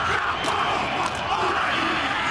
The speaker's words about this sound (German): Sie singen laut, stampfen die Füße auf den Boden, strecken ihre Zungen weit heraus und klatschen ihre Hände rhythmisch auf den Körper.